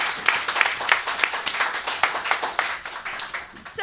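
A crowd applauds a fellow improviser and performer being introduced, a dense wash of many hands clapping steadily at moderate volume, with a few sharper claps standing out at the start before it begins to thin at the end.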